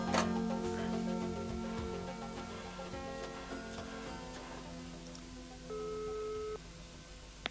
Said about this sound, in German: In der Zentrale griff der erste Detektiv zielstrebig zum Telefon und rief Inspektor Cotta an.